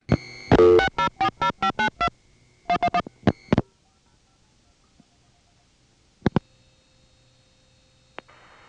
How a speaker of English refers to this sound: Now, the Vancouver step tandem was where the famous 2111 conference was. Here's a tape of calling into the conference, unfortunately at a time when nobody's on it. But the background hum of that conference is famous in itself.